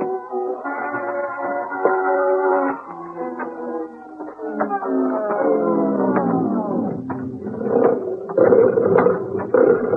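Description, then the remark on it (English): A Bengal tiger named Prince Rajput growls and moans in long, rumbling, pitch-shifting rolls that run continuously for several seconds, loud, with no voices alongside. “Bengal tiger.”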